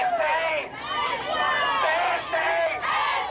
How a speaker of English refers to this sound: Another night of protest in East Pittsburgh. Demonstrators demanding answers after police shot and killed a 17-year-old who was running from a traffic stop.